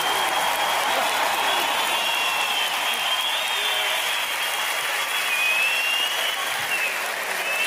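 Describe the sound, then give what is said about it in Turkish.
An audience applauds steadily, a dense, continuous patter of many hands clapping for several seconds, with no break or buildup, holding at an even level throughout. “Evet, alkışladık ama belki de gerçekten yok.”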